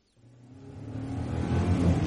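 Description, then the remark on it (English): A car engine hums low and steady, growing gradually louder as the vehicle approaches over a couple of seconds, with no voices over it. “Ah, is that the car?”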